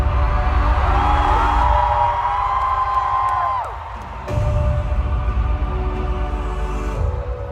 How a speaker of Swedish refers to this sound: spelar låt efter låt för sina skrikande fans.